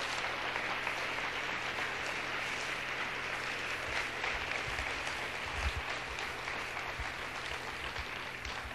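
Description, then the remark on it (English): A crowd claps for the Lord, producing a dense, continuous wash of hand claps at an even loudness throughout, with no voices rising above it. “Come on, clap, really clap for the Lord.”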